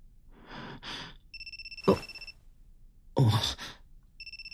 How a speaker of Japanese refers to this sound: 電話。あ、社長から。切ったよ。